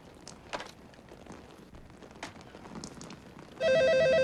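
telephone ringing

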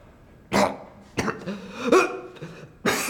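coughing

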